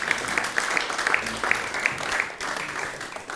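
An audience applauds steadily, a dense wash of many hands clapping at an even level for a few seconds, with no one speaking over it.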